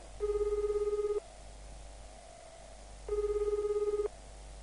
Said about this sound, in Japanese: 呼び出し音が1回、2回、3回、4回、5。